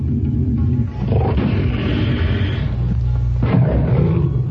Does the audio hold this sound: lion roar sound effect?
yes